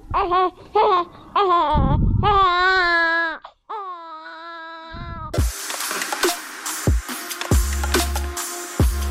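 A baby in a family affected by the September 14 to 17 border conflict between Tajikistan and Kyrgyzstan wails loudly in several drawn-out, rising and falling cries. The crying then gives way to a harsh, noisy background with scattered thuds.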